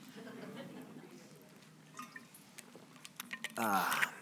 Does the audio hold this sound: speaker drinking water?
yes